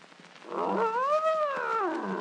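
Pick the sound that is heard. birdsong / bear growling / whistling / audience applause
bear growling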